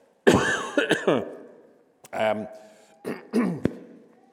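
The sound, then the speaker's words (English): A person coughs and clears their throat in several short, rough bursts, fairly loud, with brief pauses between the fits and no talking. “I've had a cough.”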